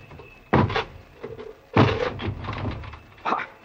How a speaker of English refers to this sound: Corporal. Break this door down.